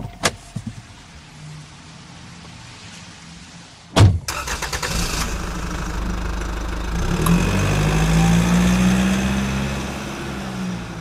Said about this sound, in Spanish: Al salir, encendió el auto y condujo rumbo a la funeraria.